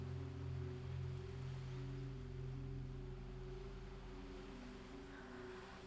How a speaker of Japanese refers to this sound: ザブーン、ザブーン。波に揺られて、潮の導きのまま